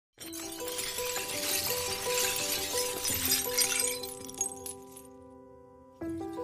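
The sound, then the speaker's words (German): Glass from a cracked, glued-together glass container clinks and rattles in a dense, bright jangle, leaving lingering ringing tones that overlap and fade, then a short silence before another clink starts. No one speaks. “Nicht perfekt, sondern so, dass man die Risse in dem Glasbehältnis noch sehen kann.”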